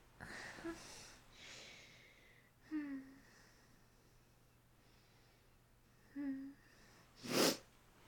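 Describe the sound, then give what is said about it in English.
Soft sniffles and breathy, voiced intakes build up over several seconds, then a single sharp sneeze bursts out near the end, with no talking. “I have the sniffles.”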